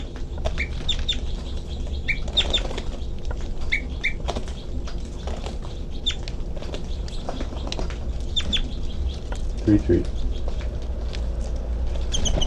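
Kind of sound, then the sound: bird, bird giving flight calls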